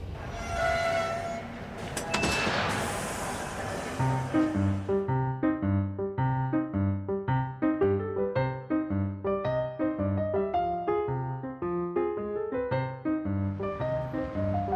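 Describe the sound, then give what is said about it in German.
A train rumbles and sounds its horn loudly for the first few seconds as it nears Bern, the capital of Switzerland, then a steady, rhythmic musical tune with a bouncing bass line plays through to the end. “In wenigen Minuten erreichen wir die schöne Hauptstadt der Schweiz. Gäste, die in Bern aussteigen möchten, bitten wir höflichst, sich vorzubereiten.”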